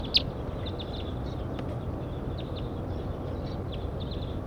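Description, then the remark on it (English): Very large flocks of birds, about ten birds, passing overhead, giving many short, high chirping calls scattered irregularly throughout, over a steady low rushing background noise. No one speaks. “Very large flocks flying over now.”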